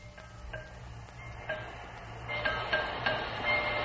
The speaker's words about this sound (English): With the hammer, the one that's knocking on the wheel. He's an engineer. He's the man who drives the train.